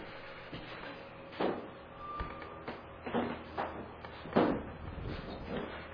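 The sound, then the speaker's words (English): A door is handled, pushed open and propped open: a few scattered clunks and scrapes, one brief squeak, over a low steady hum, with nobody speaking. “can we crack that door or put a sign propping it? Because it's really going to get hot in here.”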